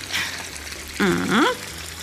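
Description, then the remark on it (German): Water pours steadily into a large cooking pot of quince quarters, enough to cover the fruit, with a soft, rushing splash; the tone briefly rises and gurgles as the pot fills. Moderately loud, with no talking. “So, jetzt geben wir so viel Wasser in den Topf, dass die Früchte gut bedeckt sind.”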